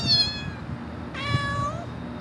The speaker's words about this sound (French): Oh, un chat. Minou, minou.